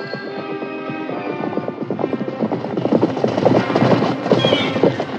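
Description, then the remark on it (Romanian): Horse hooves clip-clop in a quick, steady rhythm as Țugulea and the great zmeu ride on horseback toward each other on a road, growing louder as they approach, with a dense rumbling texture underneath and a brief whinny-like tone near the end. “Și ieși Țugulea călare în drumul smeului cel mare, care venea și el tot călare.”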